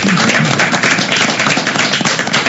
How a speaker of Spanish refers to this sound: De los invitados que tenemos aquí en el estudio, aquí en Pelan los Fe. Pido un fuerte aplauso.